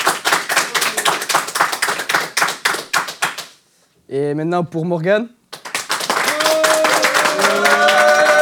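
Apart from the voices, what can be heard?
audience applause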